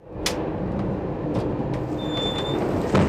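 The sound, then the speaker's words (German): Steady low rumble inside an ICE high-speed train travelling from Munich to Mainz, with faint rattling clicks and a thin high tone sliding in briefly, no voices, the noise constant throughout. “Die fährt übers Wochenende von München nach Mainz mit dem ICE zu ihren Großeltern”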